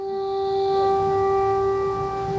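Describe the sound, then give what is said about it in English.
Air raid sirens in Kramatorsk blare outside a bomb shelter in a steady, unbroken wail at a single pitch, loud and continuous from start to finish, with a low rumble underneath and no voices. “We interviewed the mayor of Kramatorsk, Alexander Goncharenko, from his bomb shelter as air raid sirens blared outside.”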